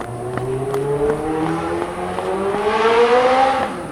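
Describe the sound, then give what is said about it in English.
A loud motorcycle engine revs steadily, its droning pitch climbing gradually over several seconds before easing off slightly at the end, with no voices present. “I'm sorry you had to hear that hideous motorcycle noise.”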